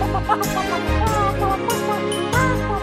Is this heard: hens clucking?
yes